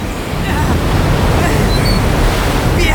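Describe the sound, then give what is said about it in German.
A heavy thunderstorm at sea roars loudly and continuously, with waves crashing and wind rushing in a dense, unbroken wash of noise. “Es erhob sich ein schwerer Gewittersturm, schwerer als sich zunächst vermuten ließ.”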